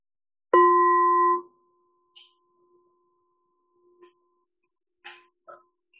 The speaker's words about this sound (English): Just listening to the sound of the bell.